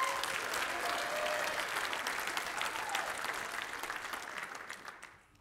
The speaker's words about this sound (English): He's going to be bold in that. So give him one more round of applause if you could.